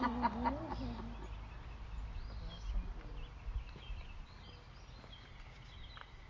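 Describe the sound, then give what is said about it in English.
Scattered bird chirps and calls drift in over a low, steady outdoor rumble, the songs faint but continuous across the few seconds of open morning air, on an early morning with weather that is not cold. “And just to hear, how often are we outside this time of the morning to hear the birds?”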